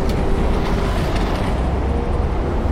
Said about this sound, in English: Half were put in a space that was still happy and healthy, but involved 73 decibels of traffic noise being played.